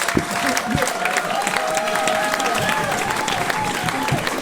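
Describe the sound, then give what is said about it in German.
A concert audience applauds steadily, a dense wash of many hands clapping at even loudness throughout, with faint cheering tones and voices mixed into the noise. “Aber eigentlich gilt ja der Applaus euch, weil ihr habt ja Eintritt bezahlt.”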